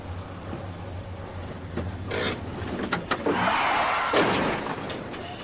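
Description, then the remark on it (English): A car idles with a low hum, then clicks and a door opening give way to shuffling as someone climbs out, ending in a firm door thud. “Hey, be careful when you get out of the car!”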